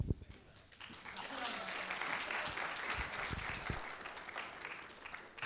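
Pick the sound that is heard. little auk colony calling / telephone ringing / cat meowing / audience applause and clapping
audience applause and clapping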